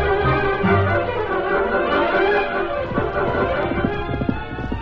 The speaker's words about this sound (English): And the horse is running away! Come back! That horse is wild!